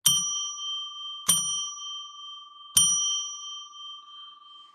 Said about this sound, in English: So we'll pull back the curtain on the magical window, which begins by ringing a bell 3 times to declare sacred space.